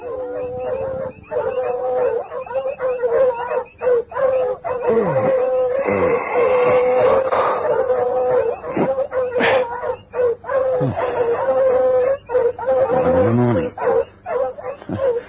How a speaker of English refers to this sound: One night, Volator was awakened by the dogs barking excitedly.